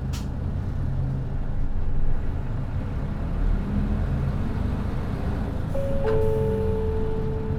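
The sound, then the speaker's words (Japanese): Steady low rumble of an idling Kanto Railway express bus engine filling the cabin, a bus bound for Tsuchiura Station via Sakuragaoka, with a brief hiss near the start and a couple of short electronic chime-like tones toward the end. “毎度ご乗車ありがとうございます。このバスは特急所桜ヶ丘経由土浦駅行きでございます。”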